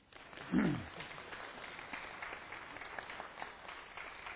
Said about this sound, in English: If you think she's beautiful, clap.